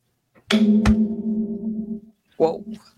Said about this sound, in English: Whoa. That echoed. Is that a good thing?